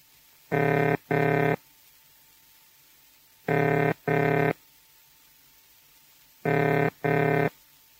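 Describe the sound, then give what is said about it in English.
A telephone ringing tone heard after dialing, meaning the dialed number is being rung: three pairs of low, buzzing burrs, each pair of short rings followed by a long silent pause, steady and fairly loud with no talking. “The ringing tone is a pair of low-pitched burring sounds repeated with a fairly long pause after each pair, like this.”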